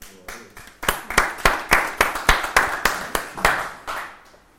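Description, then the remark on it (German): An audience claps in steady unison, a dozen or so sharp, crisp claps at an even rhythmic beat, fairly loud and then tapering off at the end. “Ist das ein Applaus wert?”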